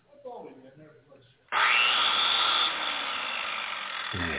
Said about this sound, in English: What did you get out of the mystery box? Did you get, you got a chainsaw. Great.